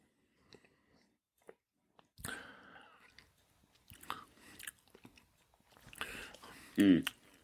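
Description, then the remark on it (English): Someone sips a drink: soft wet slurps and mouth noises over several seconds, ending with a louder, appreciative hum. “All right, let's take a sip of this.”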